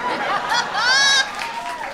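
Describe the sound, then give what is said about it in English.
A live audience boos, a loud swell of many voices rising and holding for about a second before easing back into scattered crowd murmur. “For his sake, what are we booing exactly?”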